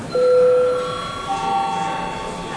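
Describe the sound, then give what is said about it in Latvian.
The break bell of the Latvian parliament (Saeima) rings for a recess as a steady, sustained electronic tone with a few held pitches, starting abruptly and continuing at an even level over faint background noise. “Kolēģi, laiks pārtraukumam, lūdzu zvanu, lūdzu deputātu reģistrācijas režīmu.”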